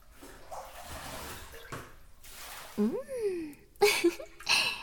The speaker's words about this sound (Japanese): じゃあ、頭からシャワーを流していくね。どう？シャワーの温度大丈夫かな？